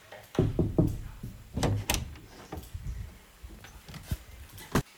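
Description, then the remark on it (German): A series of sharp knocks in irregular clusters, some quick groups of three and a few isolated raps, moderately loud, with a thumping wooden quality and no one speaking. “Ein Klopfen.”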